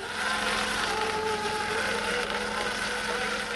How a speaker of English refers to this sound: Brewer grabs the buoy and uses the winch on his lobster boat to haul up an experiment.